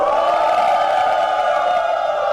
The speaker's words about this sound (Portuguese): E vamos começar com vaia. Solta a vaia aí, gente.